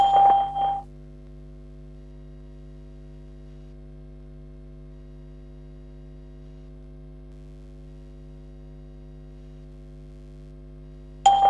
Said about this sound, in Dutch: Hallo en welkom bij de testservice van Skype. Na de pieptoon kunt u een bericht inspreken van maximaal 10 seconden. Daarna laten we u dit bericht terughoren.